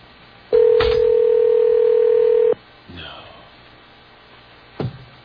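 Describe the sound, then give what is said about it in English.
A single long telephone ringback tone, steady and fairly loud for about two seconds, followed by a quiet stretch of faint line noise and a soft click near the end. “The ringing is the... How many rings do you have?”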